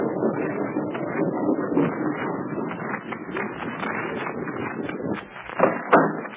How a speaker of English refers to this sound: After a moment, the rock swings away slowly, and a narrow lane is disclosed. The tank rumbles through, followed by the car. The rock breaks back into place, and the sentry smooths out the track that will make it close.